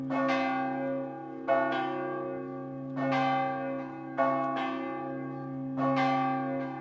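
Church bells toll from the top of the Santuário Santa Paulina sanctuary church in Nova Trento, Santa Catarina, Brazil, calling the faithful to devotion, in a steady sequence, each strike ringing out with long, overlapping resonance and a sustained low hum beneath. No voices.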